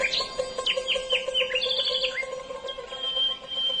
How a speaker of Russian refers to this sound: И запел соловей веселую песню, прыгая с ветки на ветку, с дерева на дерево.